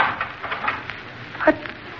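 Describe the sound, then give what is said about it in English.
A door being locked: a few light metallic clinks and rattles, then a sharper clack as the bolt catches, with no voices over the moderate, steady sound. “Edwards, locking the door.”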